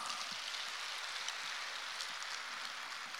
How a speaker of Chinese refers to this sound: 师父讲得好不好啊？讲得这么好，你们的掌声就像毛毛雨一样。